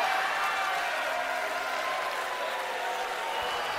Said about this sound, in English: You know what? I deserve to be booed.